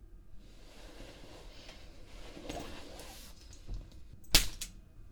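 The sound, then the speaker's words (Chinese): A single sharp whip crack snaps out near the end, loud, after several seconds of faint low rustling and background hum. “这鞭子喜欢吗？看来还是这个能让你有点反应啊。”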